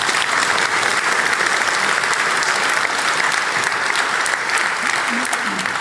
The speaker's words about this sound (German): Applaus